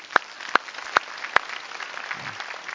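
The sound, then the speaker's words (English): Four sharp, evenly spaced hand claps ring out at a steady pace over a soft, continuous background murmur, with no voices speaking, during a church service. “So I'm going to clap for them today.”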